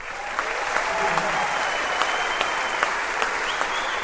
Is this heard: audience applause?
yes